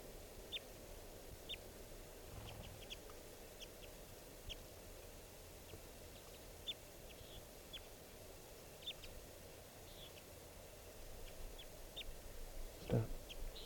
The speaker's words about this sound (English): Recording. Both birds are calling now. Good call matching there by the pair. Must be a male-female adult pair.